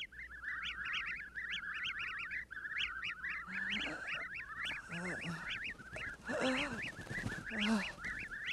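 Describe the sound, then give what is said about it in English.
A vast flock of unnaturally belated whippoorwills screams in a dense, rhythmic chorus near the unlighted Whateley farmhouse, shrill repeated calls overlapping continuously with harsher squawks bursting through, loud and unbroken with no voices. “But people paid more attention to the rhythmical screaming of vast flocks of unnaturally belated whippoorwills, which seemed to be assembled near the unlighted Whateley farmhouse.”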